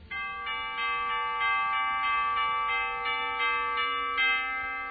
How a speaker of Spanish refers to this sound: ¿Qué horas son? Son las seis. Las campanas dan din don, te lo dicen en canción.